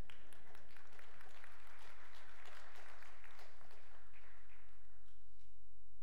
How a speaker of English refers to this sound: Someone started to clap. You could clap for that.